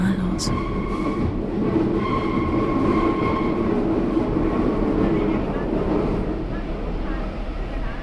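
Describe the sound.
Steady, loud rumble inside a moving train carriage, with a constant low roar and faint high whining tones from the wheels or motors running throughout, and a murmur of voices beneath.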